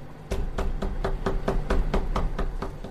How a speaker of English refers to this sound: Whoa, that is some intense knocking. Aren't you going to answer the door?